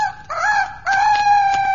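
A rooster named Chanteclair, used as an alarm clock, crows loudly: a short rising call followed by a longer sustained, slightly wavering crow, with no talking over it.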